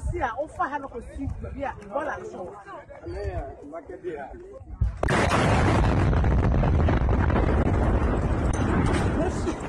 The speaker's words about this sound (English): This crater hints at the size of the explosion in western Ghana. The blast happened on Thursday when a truck collided with a motorbike. The truck was carrying explosives to a gold mine. The result was shocking, as filmed by eyewitnesses.